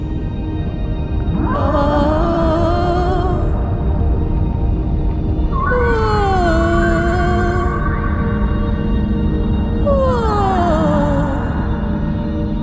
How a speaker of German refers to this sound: Ein Wal schwimmt an ihnen vorbei. Er singt ganz leise. Singen Sie mit ihm.